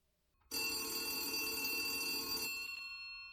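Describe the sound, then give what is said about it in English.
An old-style landline telephone bell rings loudly in one continuous burst of about two seconds, a bright metallic jangle that cuts off abruptly and leaves a brief ringing decay. “Why do we even have a landline anyways?”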